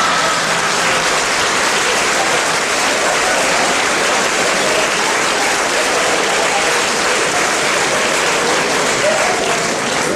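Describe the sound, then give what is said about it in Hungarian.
Loud, sustained applause from many hands, a dense steady clatter of clapping that holds at full strength for about ten seconds without a pause. “Ő még folytatná, de mi hangos tapsolással odébb állunk.”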